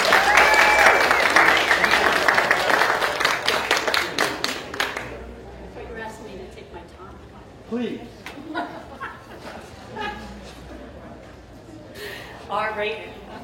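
A burst of loud audience applause fills the first five seconds, dense and steady, then fades into scattered claps and murmuring crowd noise with brief bits of chatter.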